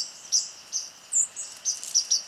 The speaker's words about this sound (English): You know, I'm walking through a park on my way to the gym. I am not looking or paying attention to birds, except I am, because I always am. And my ears are telling me, oh, the white-throated sparrows are back, just from hearing their call notes.